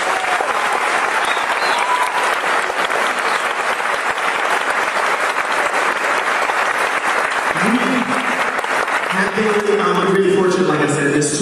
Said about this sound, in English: Please give them a round of applause for them.